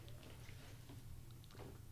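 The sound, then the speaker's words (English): Soft chewing on a small bite of food, a few faint wet crunches and clicks spread irregularly over a low steady background hum, with no talking. “I'm taking a small bite.”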